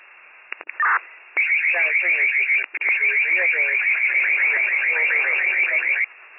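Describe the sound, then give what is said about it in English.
A building alarm blares steadily for several seconds in rapid repeating pulses, sounding tinny and narrow as if heard over a radio, with a short click and break before it starts and muffled voices underneath. “the alarm is going off, in fact, was ajar.”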